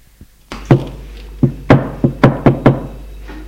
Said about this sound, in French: On frappa à la porte.